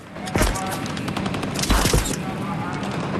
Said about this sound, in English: Gunfire hits the wall the Marines are taking cover behind.